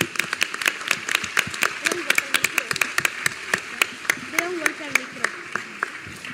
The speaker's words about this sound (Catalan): Un aplaudiment ben fort per ells.